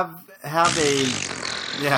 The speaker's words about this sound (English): Anything else, gents? Fart noises.